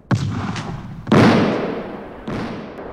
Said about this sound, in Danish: Det bliver ved med at regne med brandbomber, og flere civile har mistet livet.